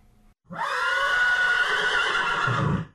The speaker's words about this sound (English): After leaving the old gentleman wondering, she came upon a horse in a paddock.